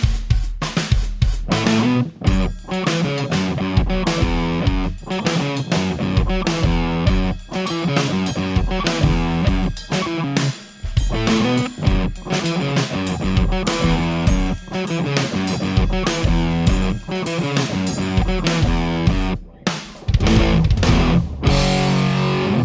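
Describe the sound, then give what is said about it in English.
A guitar played through an overdriven tube amp with the drive a little over halfway up. Its tone breaks up into gritty distortion as it plays a steady, dense run of chords and notes for over twenty seconds, loud. “So the demo was kind of like, drive was like a little over halfway up and the volume just so that I was getting a bit of that out of control breakup-y sound at the front of the tube amp.”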